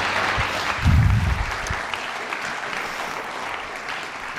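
An audience claps steadily, a dense wash of many hands at a moderate level, with a brief low thump near the start, then the applause continues evenly without any voices.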